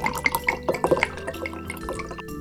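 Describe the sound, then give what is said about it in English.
Oil pours into a bowl in a short, splashy trickle broken into quick drips and glugs, with no one speaking; the oil is being added to flour and water to make pizza dough. “Now pour in some oil.”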